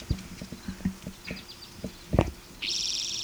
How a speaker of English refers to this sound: I think Q 4 through 25 is a different bird.